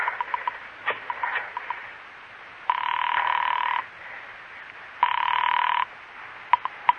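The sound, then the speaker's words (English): A burst of quick mechanical clicks like a rotary phone being dialed to call the Litchfield Nursing Home, then two long buzzing rings from the telephone, fairly loud, followed by a few sharp clicks as the line connects. “Pick up the phone and dial a number.”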